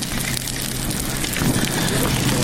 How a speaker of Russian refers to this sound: Костер горит, да.